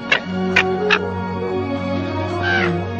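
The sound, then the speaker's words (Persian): Three quick harsh caws from a crow ring out close together near the start, followed by a fainter call later, over a steady low droning hum. “میبینی حتی نمیتونم یک کلاغو بترسونم، اون از جاهای دور میان و محصول مزرعه‌مو میخورن و تو دلشون به هم میخندن.”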